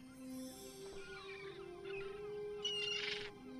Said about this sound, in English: Now seagulls fly in the night sky. The moonlight silhouettes them as they circle Wendy's house.